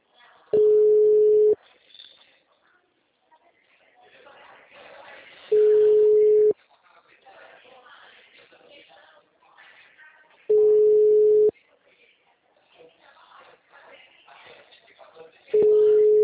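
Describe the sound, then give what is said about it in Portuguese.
A loud, steady telephone busy-signal tone beeps four times at regular intervals, each lasting about a second, with a recorded voice speaking in the gaps between them. “mensagem gratuita de telefone ocupado.”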